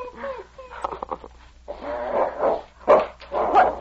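A dog named King snarls and growls low, then lets out several rough, loud barks in uneven bursts that rise and fall over a few seconds.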